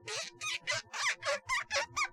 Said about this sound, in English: You can hear that squeak right there on that cable, and you know that all the dirt, all the gunk is off that cable tip. And it does take a little bit of time.